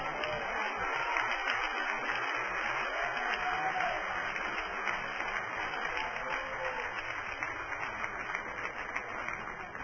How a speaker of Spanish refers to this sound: Alguien puede darle un aplauso a Jesús.